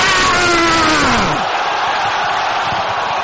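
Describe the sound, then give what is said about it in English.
A church audience roars loudly on command during a prayer. Strained voices slide downward in pitch during the first second and a half, then give way to a steady, noisy wash of shouting that holds to the end. “Somebody roar.”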